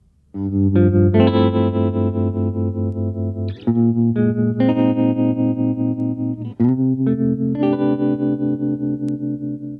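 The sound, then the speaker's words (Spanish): An electric guitar plays sustained chords with a tremolo effect, the volume pulsing quickly and steadily. Three chord changes ring out alone, loud, with a touch of reverb. “Y ahora esto es una guitarra con trémolo.”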